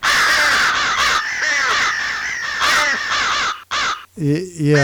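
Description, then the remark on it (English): A crow caws loudly and harshly in a run of raspy, overlapping calls lasting several seconds, followed by a brief burst of a man's voice at the end. “That crow is really getting.”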